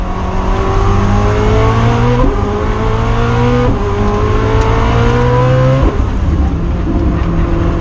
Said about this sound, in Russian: Уходящий звук в ближайшем будущем будет утрачен, безусловно. Это один из последних, я думаю, представителей гиперкаров, который может еще так звучать, потому что у него двигатель внутреннего сгорания.